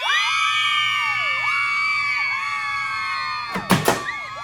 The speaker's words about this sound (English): Shocking scenes today as a crowd of 200 mini-skirted lady rabble shoved their hairy gams past heavy Montrose security in a screeching effort to catch a glimpse of Ireland's latest media sensation, the cast of Home Farm.